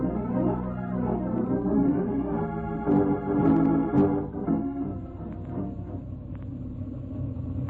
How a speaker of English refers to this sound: Well, you can't jump a moving train, Mark. You'll get killed. The engine doesn't have too much steam up yet.